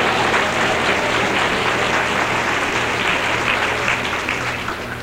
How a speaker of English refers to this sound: Say a good amen here tonight. Give the Lord another good clap offering. Hallelujah.